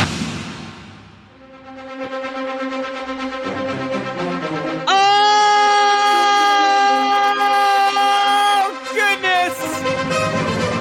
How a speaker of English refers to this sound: Breaking news siren.